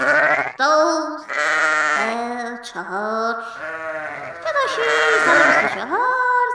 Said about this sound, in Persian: یه ذره از گوسفند میترسم، گوسفند خیلی خیلی سر و صدا میکنه.